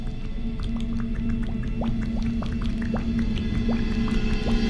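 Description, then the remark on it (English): Sourdough starter bubbles and churns, with irregular little pops and gurgles rising from a thick, wet mass over a steady low hum. Continuous, with no voices. “Although this one is bubbling and churning like I've never seen.”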